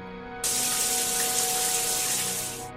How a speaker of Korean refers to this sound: 그리고 그 순간 갑자기 샤워 소리가 들려오는 겁니다.